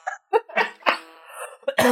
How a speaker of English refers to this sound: Oh, God, you really got me when I start coughing. Okay, please continue.